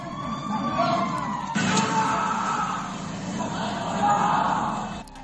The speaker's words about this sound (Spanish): Escucha ahora la historia que nos llega desde Sevilla. Ponte en situación, son las 4:30 de la madrugada, estás durmiendo y te despiertan estos gritos.